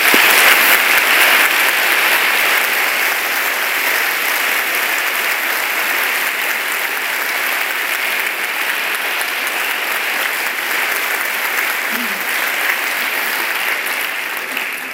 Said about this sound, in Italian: Prima di andare all'ultimo dono, facciamo loro un applauso.